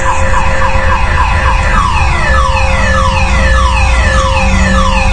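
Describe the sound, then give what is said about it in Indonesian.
A black car's alarm blares nonstop in a basement, its electronic tone sweeping downward over and over in a steady cycle, loud, with a low rumble underneath and no voices. “Ada sebuah mobil berwarna hitam yang alarmnya berbunyi.”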